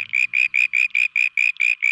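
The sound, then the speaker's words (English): A frog's old, lower-pitched mating call repeats as a steady train of loud, buzzy pulses, roughly four or five per second, with no voices and only a faint low rumble at the very start. “Now that may sound like a pretty simple solution, but changing their calls to cope with the noisy environment is actually quite extraordinary for frogs.”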